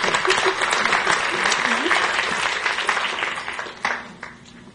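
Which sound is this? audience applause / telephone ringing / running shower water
audience applause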